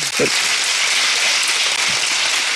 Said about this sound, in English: He's here with us today. Come on, let's give him a hand clap.